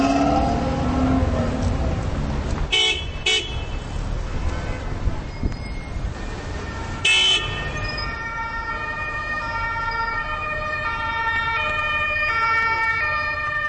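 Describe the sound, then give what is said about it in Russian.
Busy city street traffic with a siren passing through, its wailing tones rising and holding over the steady rumble of engines and road noise, loud throughout. “Если мы на улице, то главные герои вот для меня – это именно вот эта машинерия.”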